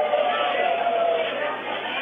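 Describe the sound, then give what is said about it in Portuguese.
A crowd in a plenary chamber boos while a criminal sentence is being read out, in one steady, loud, drawn-out roar of many voices, with no single speaker standing out, for about two seconds. “As vaias agora, olha o som do plenário.”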